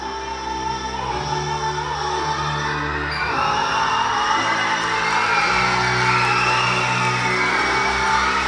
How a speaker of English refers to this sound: Chief Eagle tosses the chain into the air and spins the hoops over the heads of screaming elementary school students.